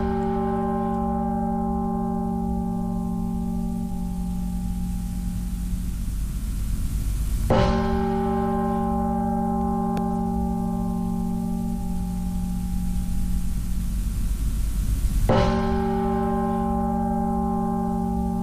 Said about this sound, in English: I say a three-bell salute for the bridge.